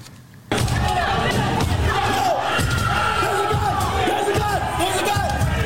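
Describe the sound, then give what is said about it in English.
A loud, dense crowd of rioters yells and shouts continuously, voices overlapping in a chaotic roar, with occasional thuds and bangs cutting through the din, as they try to break through the door to the House chamber. “You're trying to break through the door to the chamber, to the House chamber.”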